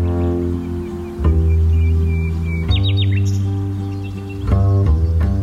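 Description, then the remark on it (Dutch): A nightingale sings a few brief, high chirps and trills midway through, set against a loud, sustained bed of warm instrumental tones that swell and shift. “Hoor je de nachtegaal?”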